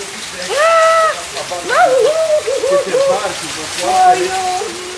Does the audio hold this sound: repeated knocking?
no